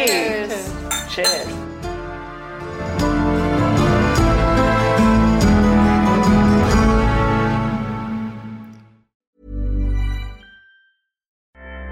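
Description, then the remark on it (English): Glasses of Prosecco clink together in a toast several times in quick succession, bright and ringing, then give way to a sustained layered musical sound that fades out. “Well, thank you for the invitation and the Prosecco. Absolutely. Cheers.”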